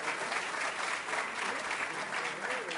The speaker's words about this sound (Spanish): El aplauso para ellos.